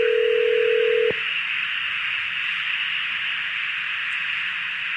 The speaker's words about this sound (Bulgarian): Ето сега звъним. Чуваме го и в ефир.